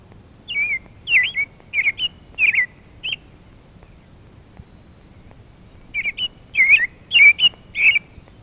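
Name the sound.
american robin song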